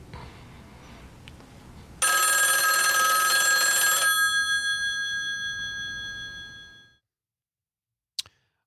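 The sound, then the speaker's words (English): A telephone bell in a hotel room in a Coen brothers film scene rings once in a loud, buzzing burst for about two seconds, its tone lingering and fading over the next few seconds, then silence broken by a single sharp click. “All right, so the ring happens about three more times, and then you just hear this huge gunshot.”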